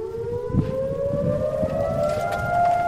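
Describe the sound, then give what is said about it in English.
A civil defense siren wails steadily over Israel at 11 in the morning on Memorial Day, sounding for one minute, its sustained tone slowly rising in pitch, loud and continuous over a low rumble of outdoor background noise. “At 11 this morning, sirens wailed over Israel for a minute and life briefly came to a halt.”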